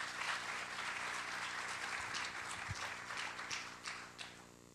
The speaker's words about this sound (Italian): Stiamo commentando con Tiziano Scarpa, che saluto e che vi invito a fare un applauso di benvenuto.